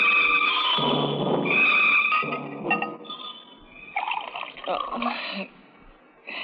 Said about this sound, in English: I'm just pouring myself a drink.